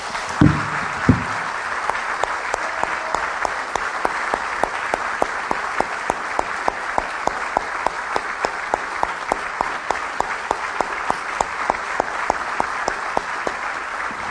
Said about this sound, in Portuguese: Eu vou convidar os irmãos para nós, antes de tomarmos a ceia, aplaudirmos o Senhor Jesus que está aqui conosco.